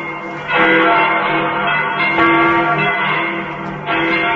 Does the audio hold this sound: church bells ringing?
yes